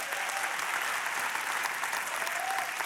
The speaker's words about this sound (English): I like it when you clap. 11 o'clock never claps, so this is good.